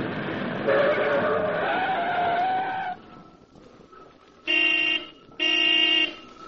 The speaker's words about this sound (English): brought his car to a stop before the contractor's temporary office, a small shack standing on the site of a large city construction job.